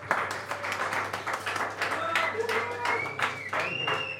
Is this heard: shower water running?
no